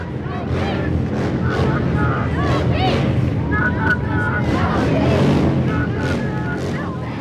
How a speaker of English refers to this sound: The bikers drive by slowly, coming in waves. Some even take multiple trips.